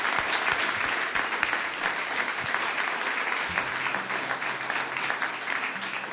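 Sustained audience applause, a dense steady patter of many hands clapping at an even loudness throughout, with no voices standing out.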